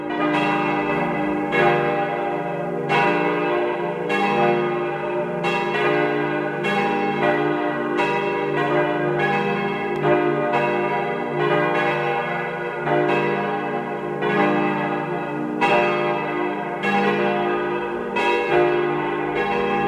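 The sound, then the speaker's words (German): At noon, several bells of the parish church of Saints Stephen and Anna in Karres, Tyrol, peal together in a full, continuous ring, their overlapping strikes falling in a steady irregular rhythm, loud and resonant with a long humming sustain and no voices. “Sie hören die Glocken der Pfarrkirche zu den Heiligen Stephanus und Anna in Karres in Tirol.”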